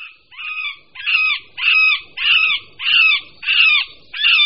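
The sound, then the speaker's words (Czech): A male middle spotted woodpecker in spring gives a series of seven nasal, drawn-out calls repeated at a steady pace about every half second, fairly loud, each sounding plaintive and whining with no talking. “Na jaře se samec strakapouda prostředního ozývá naříkavými, táhlými zvuky, někdy klesajícími, někdy stoupajícími, které nelze zaměnit s hlasy jiných strakapoudů.”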